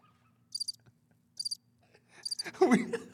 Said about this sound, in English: Bro, this cricket's got some stamina.